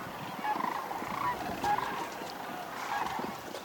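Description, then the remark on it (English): Sandhill cranes trumpet in a loud, rolling chorus, overlapping calls repeating across the few seconds with no pause, like a flock calling together outdoors. “with a long passageway for the sound that it kind of amplifies it, and it comes out very loud.”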